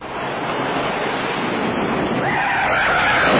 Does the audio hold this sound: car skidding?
yes